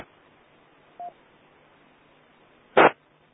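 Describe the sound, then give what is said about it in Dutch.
Steady radio static hisses throughout, with a weak radio transmission buried in the noise, broken by a short, faint tone about a second in and then a brief, louder crackling burst near the end. No voices are audible. “Ja, dat is net van mij, net wat te diep in de ruis.”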